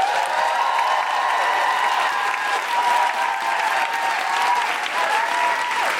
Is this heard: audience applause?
yes